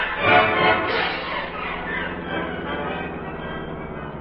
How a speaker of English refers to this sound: That's a plane motor, Cato. The motor of a plane that's about ready to take off.